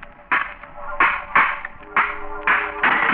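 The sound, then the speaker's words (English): About six hard blows of a stone against an old, rusty lock on a tomb door, striking at an uneven pace, each a sharp clank with a faint metallic ring between hits. “Smashed the lock.”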